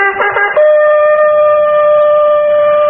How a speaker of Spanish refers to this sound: El árabe Hasil hundió la mano entre su blanca túnica y sacó el cuerno utilizado para llamar a los buitres. Lo llevó hasta sus labios resecos y...